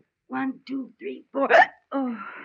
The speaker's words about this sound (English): One of the girls at the office has a system. She concentrates to get rid of the hiccups.